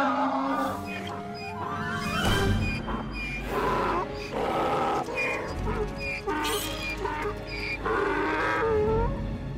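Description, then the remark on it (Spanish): A donkey brays loudly, its harsh, honking calls rising and falling in repeated cycles across the whole stretch with no one speaking. “No hagan movimientos bruscos. Este burro tiene una patada de rayo.”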